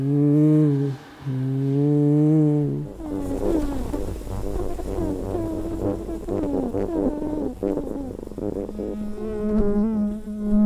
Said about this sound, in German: Unter mehreren Tonnen Sand, damit schallisoliert, schwirren die Fliegen in einer kleinen Box herum. Über Mikrofon und Kopfhörer können Besucherinnen und Besucher mit ihnen in Kontakt treten.